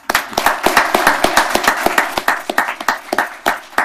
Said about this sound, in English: Can we suspend the rules and give these outstanding young people a round of applause? Let's do that. Yeah.